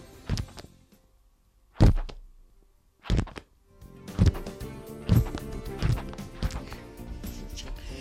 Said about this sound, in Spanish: No tienes mucha habilidad tú pasando hojas de libro, pero bueno